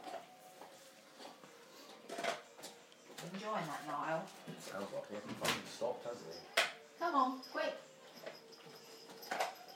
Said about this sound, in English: Ooh, knocked my bottle over. Good job the lid was on. No, I'm not on the booze, it's Oasis.